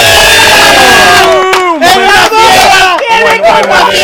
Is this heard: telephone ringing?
no